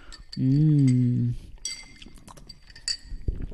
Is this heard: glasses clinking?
yes